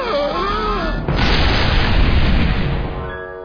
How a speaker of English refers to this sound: How did you do that? You mean with the big comedy cannon?